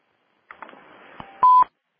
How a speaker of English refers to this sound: Heard another beep there.